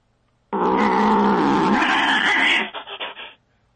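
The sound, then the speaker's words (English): An alley cat growls loudly in one harsh, sustained snarl lasting a few seconds, breaking into short sputtering bursts before it stops. No one speaks. “Was the cat?”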